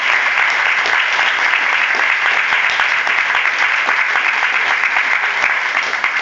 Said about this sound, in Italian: Credo che questo vada sottolineato con un applauso.